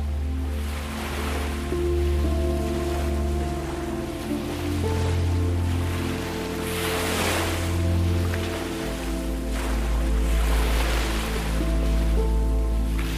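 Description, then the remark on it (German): Small, light waves of a clear sea wash in slow, gentle surges around the feet, swelling and receding a few times in a light, pleasant wind and warm sun, over a steady, sustained musical drone, with no voices. “Und das Meer hat ganz leichte, kleine Wellen.”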